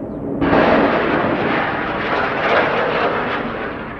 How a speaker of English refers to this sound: Israeli helicopters were rocketing Palestinian positions throughout the Kasbah. There was no way to tell how accurate the strikes were,